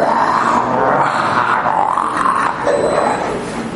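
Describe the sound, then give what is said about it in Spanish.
A man's voice lets out a long, loud, growling roar, sustained for several seconds with rough, raspy texture, imitating an animal's bellow. “Cuando ya se despide de ella, bueno, mi amor, que descanses, llega a su casa y pega un rugido.”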